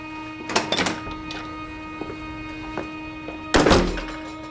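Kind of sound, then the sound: household object, door being shut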